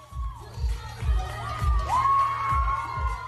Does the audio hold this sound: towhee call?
no